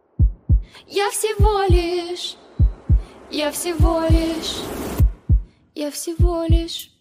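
A deep, steady heartbeat thumps in lub-dub pairs, about one pair per second, the pulse growing clearer, with a breathy, murmuring voice rising and falling over the beats.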